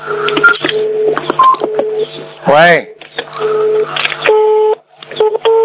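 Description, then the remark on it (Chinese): Telephone line tones overlap as callers dial two or three phones at once: steady ringing and busy-signal beeps switching on and off in short repeated bursts, with a brief warbling chirp midway and a voice answering a call that gets through. “你看他们都是两三个电话一起打的，这个打通了，那个没打通。”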